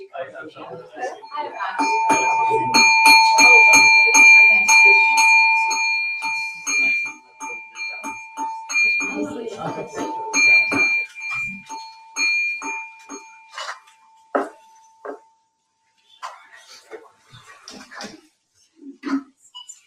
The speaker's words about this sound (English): All right, let's ring the bell.